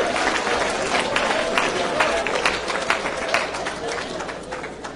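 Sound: audience clapping along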